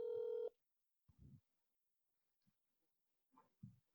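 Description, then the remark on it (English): A loud, steady telephone dialing tone plays for half a second through a phone speaker held up while placing a call, followed by near silence broken by a few soft, muffled low thumps. “I'm going to call him on the podcast. I don't think it's going to work, but let's see. I'm going to hold up my phone speaker.”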